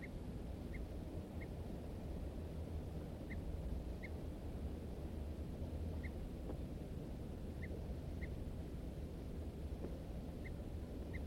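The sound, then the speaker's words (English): Short, sharp alarm notes from two birds, a wild male and a second bird responding, repeat at irregular intervals, about ten in all, over a steady rush of wind or water noise. The calls are fairly faint, the two birds answering each other. “M4 responds with alarm notes. Both birds now giving alarms.”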